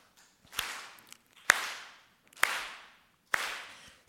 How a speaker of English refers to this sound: All right. So I'm going to clap, and you guys just join me.